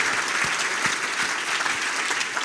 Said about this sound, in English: So let's give Arnold Morris and Zig Ziglar a round of applause for that.